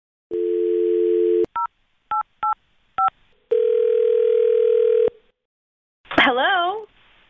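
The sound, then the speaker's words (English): A steady telephone dial tone, then four short, evenly spaced keypad beeps as a phone number is dialed, followed by another long tone and a brief warbling electronic sound, all clear. The call is placed by the morning show on the radio station Camel Country 107.9 in Phoenix. “And let's give her a call right now.”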